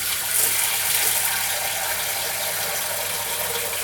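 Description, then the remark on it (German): Water, about half a litre, runs steadily into a small pot, a continuous rushing hiss that holds at an even loudness for the whole few seconds, with no one talking. “Da hauen wir ein bisschen Wasser rein.”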